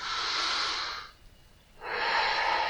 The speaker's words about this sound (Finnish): Sitten voisi taas hengittää syvään muutamia kertoja.